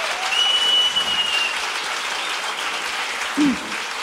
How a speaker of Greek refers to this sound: Ένα χειροκρότημα για αυτή τη γυναίκα που είναι εδώ σήμερα μαζί μας.